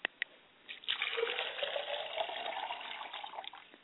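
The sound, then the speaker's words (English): Water pours steadily from a glass onto a surface as a libation poured to the east, a continuous splashing trickle lasting a few seconds after two small clinks, moderately loud, with no voices. “I pour libation to the east, and I say, Ashe.”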